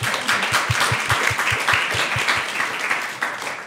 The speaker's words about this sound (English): Will you give them all a big round of applause?